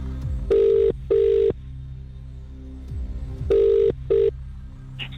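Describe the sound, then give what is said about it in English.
A telephone rings down the line as KMFM radio calls a listener's number in Kent, in two double bursts, each pair of short, steady buzzing tones separated by a long pause, with a faint background hum and no one talking. “The number is ringing.”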